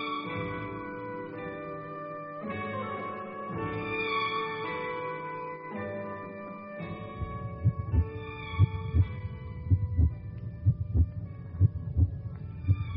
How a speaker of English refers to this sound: It was both astonishing and bewildering. Yet I heard those heartbeats for myself.